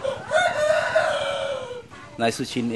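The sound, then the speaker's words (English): A fighting rooster, kept behind a house about an hour from Bangkok, Thailand, crows one long, loud, drawn-out call that sinks in pitch toward the end. After a short pause come a few brief, harsher bursts of sound. “trains fighting cocks out behind his house, about an hour from Bangkok.”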